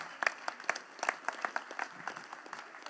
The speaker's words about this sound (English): Yeah, clap for that.